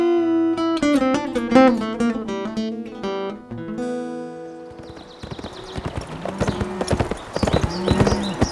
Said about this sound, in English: Billy Morton came galloping up to the log cabin at Bosque Redondo on a lathered, winded horse.